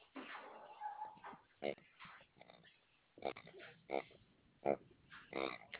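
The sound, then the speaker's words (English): A puppy whimpers in short, high, thin whines, fairly quiet, while a person talks over it in brief bursts. “I'm talking to my puppy”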